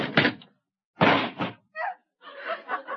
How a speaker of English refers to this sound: I didn't hit him. He ran into the door.